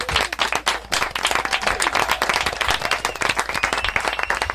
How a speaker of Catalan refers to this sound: Fort aplaudiment!